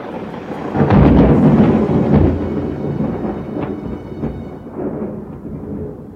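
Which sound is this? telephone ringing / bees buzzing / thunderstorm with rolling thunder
thunderstorm with rolling thunder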